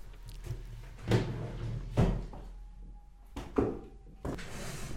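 Objects clatter and shuffle around inside a wooden drawer as someone rummages for a gift, a self-made card set, with several sharp knocks and bumps spread over a few seconds, between quieter rustling moments and no talking.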